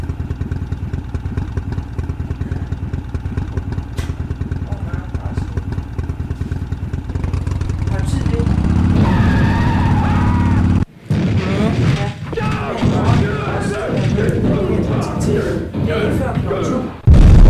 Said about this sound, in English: You popped the clutch with your engine rev too high and flipped your Harley over backwards.